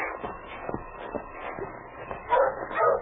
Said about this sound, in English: You're a good dog, Spud. Your barking helped King find you.